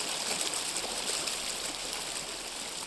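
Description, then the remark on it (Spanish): Steady rushing of the flowing water of the Río de la Arena on the Costa Chica of Oaxaca, near Pinotepa Nacional: a continuous bright hiss with faint gurgles, even in level throughout, with no voices. “Soy la voz del río de la arena.”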